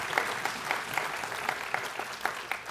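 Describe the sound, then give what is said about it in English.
A room full of people claps steadily, a dense patter of many hands spread evenly through the space, moderately loud and continuous with no voices standing out. “You want to clap for that? And clap for that.”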